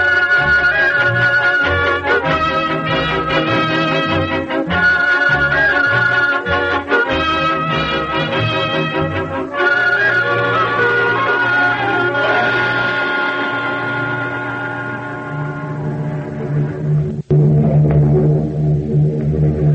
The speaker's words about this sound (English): How many planes do you make out?